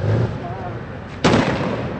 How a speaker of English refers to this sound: The streets of the old city, home to 50,000, were empty, save for a few stone throwers. The air was punctuated by the sound of idling tanks and occasional gunfire.